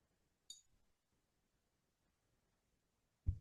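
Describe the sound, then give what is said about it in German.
A single bright glass clink near the start as someone drinks from a glass, followed by quiet stillness and then a dull low thump at the end, like the glass being set down, with no talking. “Mädels, ich weiß nicht, wie es euch geht, aber mein Mund ist trocken und wir müssen unbedingt mal wieder ein bisschen mehr trinken. Ja, also ich bin sowieso so eine Kandidatin, die das immer gerne mal vergisst und deswegen hier die Erinnerung: Prost.”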